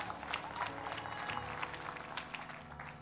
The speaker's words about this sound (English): Give the Lord a clap offering if you have a free hand. Amen.